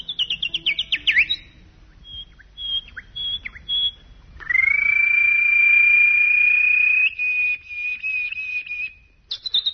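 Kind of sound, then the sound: bird, birds chirping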